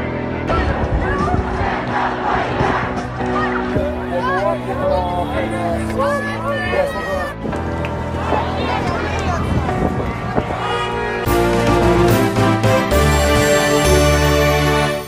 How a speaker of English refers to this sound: no justice, no peace. The slogan that has been shouted out by thousands of people during that protest.